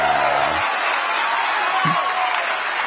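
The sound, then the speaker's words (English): A large crowd cheers and roars without letup, a loud, dense wash of voices and applause-like noise holding steady for the whole few seconds, with a brief low hum at the start. “And I love it how he gets the crowd worked up.”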